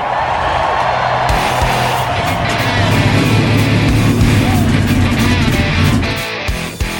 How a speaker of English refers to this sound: Cars, start your engines!